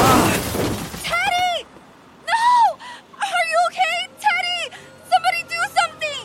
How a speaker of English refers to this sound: Was this young man hit by a car? Yes, and I'm concerned because his helmet is smashed and cracked open.